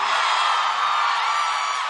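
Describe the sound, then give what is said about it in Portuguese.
A large audience roars with sustained shouting and cheering, a dense, loud wall of voices with whoops that holds steady without pause. “quem gostou, joga a mão e grita!”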